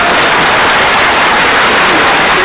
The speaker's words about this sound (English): Are you a first-time caller? I am. We got to give you some applause.